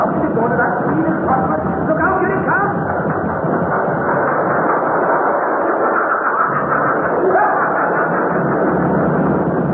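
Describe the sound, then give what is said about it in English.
A mine train rumbles steadily along its rails on number 3 level of a mine, a loud, continuous grinding clatter that fills the whole stretch without letting up, sounding muffled. “We was walking along number 3 level, singing a bit, when we heard the train coming.”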